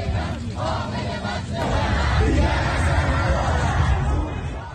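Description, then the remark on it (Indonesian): An anti-government protest crowd in Iran on a Sunday night shouts together in a sustained, roaring chant, loud and dense throughout, swelling slightly in intensity halfway through with overlapping yells and voices. “Protes-protes anti-pemerintah pecah lagi Minggu malam di Iran, memasuki hari kedua demonstrasi menentang militer”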